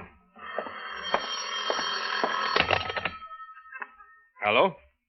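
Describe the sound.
A telephone bell rings in a sustained, rattling burst for about three seconds, then cuts off; after a short pause, a single voice speaks briefly and close by.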